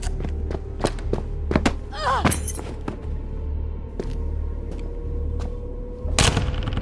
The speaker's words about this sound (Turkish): Anahtarla kapıyı açtı.